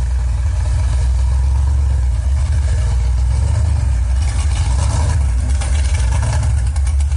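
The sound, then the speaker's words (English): A car engine idles with a deep, steady, loud rumble at a red light, its pitch rising slightly as it revs toward the end without pause or voices. “Waiting at the red light, teens revved their engines and accelerated at the green, trying to get the loudest tire screech possible.”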